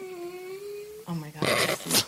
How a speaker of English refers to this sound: Please don't moan after that question, Jesse. For the listener, just in case there's any confusion, that was the sound of a dog